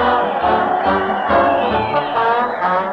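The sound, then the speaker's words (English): A brass marching band plays loudly and steadily while a crowd cheers along in a continuous, dense roar, full throughout, as Fred Allen leads his weekly parade to the old Town Hall. “Fred Allen is leading his weekly parade to the old Town Hall, and the people are giving him and the thundering band cheer after cheer.”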